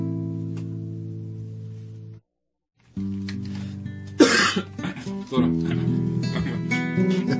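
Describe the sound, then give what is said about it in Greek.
A sharp cough bursts out once over steady, droning musical tones that pause briefly and then resume, with a few smaller rough sounds following. “Τραγούδι για το βήχα του άλλου.”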